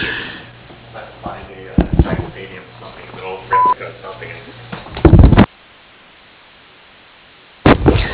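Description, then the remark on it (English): A single short, steady voicemail beep at a mid pitch, the tone after which a caller leaves a message on an Integra Turf voicemail, rises out of muffled, band-limited phone-line noise, with crackly bursts and clicks before and after it. “Your name, phone number, brief message after the tone.”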